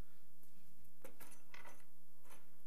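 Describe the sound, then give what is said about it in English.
Keys jangle and clink in a few short bursts as they are handled and set down, fairly soft, with a low steady hum underneath and no talking. “These keys are bothering me.”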